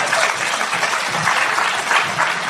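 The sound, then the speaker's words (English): A crowd breaks into steady applause, a dense patter of many hands clapping at an even, fairly loud level throughout, with no voices standing out. “And I can also you can give a clap for that.”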